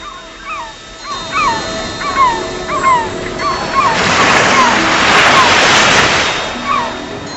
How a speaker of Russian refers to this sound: Его звуки были похожи на всхлипывание, когда волны отходили от берега и снова тихо разбивались о него.